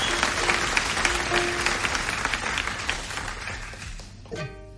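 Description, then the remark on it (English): An audience applauds a performer with a ukulele to get him started, with steady, dense clapping that gradually thins and fades over several seconds, and a brief tonal sound begins just as the clapping dies away. “Well, let's give him a nice round of applause to get him started, ladies and gentlemen.”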